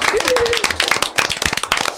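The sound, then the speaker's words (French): A group of people applauding after children read a story aloud, with dense, irregular claps running steadily for the whole two seconds. A brief voice rises over the start of the clapping. “Voilà, merci, on peut s'applaudir.”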